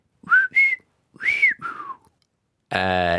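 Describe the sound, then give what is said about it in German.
A person whistles their own name in four quick gliding notes, clear, followed by a brief buzzy voiced sound at the end. “Und jetzt pfeife ich noch meinen Namen.”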